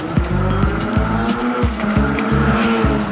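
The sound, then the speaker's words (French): A motorcycle roars past at speed, its engine loud and rasping, pitch climbing and dropping in quick repeated surges as it accelerates through gears. No voices. “Je ne pense pas que ce monsieur soit à 30 km/h, la moto qui vient de passer.”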